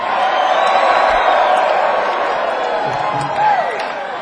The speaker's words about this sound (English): round of applause out there.